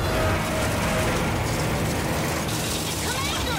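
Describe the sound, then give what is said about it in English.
A spacecraft rattles hard as its rocket engine ignites: a dense, continuous metallic clatter over a loud, steady roar that holds for a few seconds without letting up. “you know, starting from the bottom, you have, for example, just something as simple as a sound effect for, you know, when we hear some of the rattling that's happening as the engine ignites, you hear the beginnings of the rattlings of the spacecraft.”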